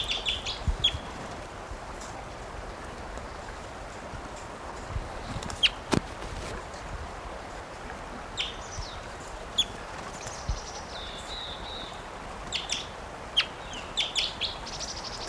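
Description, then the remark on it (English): A wild bird calls with short, high chirps and a few brief warbled phrases scattered across a steady background hiss, with occasional soft clicks and thumps. “Wild bird.”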